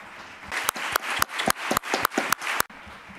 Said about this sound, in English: And a big round of applause for the five people that were here at the press conference.